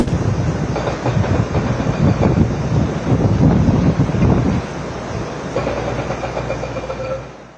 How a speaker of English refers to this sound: For those of you just listening, that last clip is just a jackhammer going while the last remains of the East Wing are demolished. It's gone now. It is now the East Wing is gone of the White House.